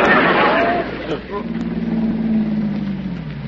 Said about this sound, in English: Well, here comes that same car again. Now, that guy's been following me for an hour now.